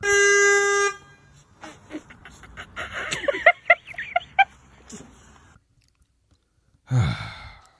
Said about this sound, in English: How your belly so big that you can't get out the car? You beeping the horn before that you can even get out the car.